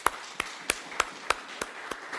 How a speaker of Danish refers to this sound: Tak til jer, som har pyntet så fantastisk flot i dag. I skulle næsten lige have en ekstra lille klapsalve også.